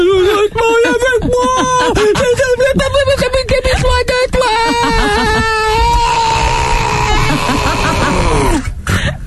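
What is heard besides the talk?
man sobbing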